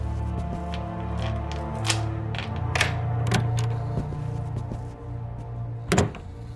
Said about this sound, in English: Rummaging briefly in a drawer by the door to her apartment, she finds what she is looking for.